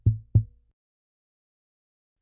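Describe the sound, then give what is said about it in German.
Loud knocking on a window: two quick, dull thuds, then a pause of nearly two seconds before a third knock. The knocks are low and hollow, with silence around them. “Doch plötzlich klopft es laut an sein Fenster.”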